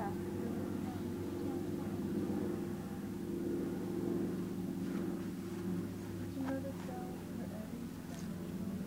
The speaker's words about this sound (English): Helicopter.